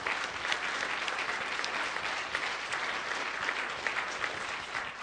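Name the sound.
loud audience applause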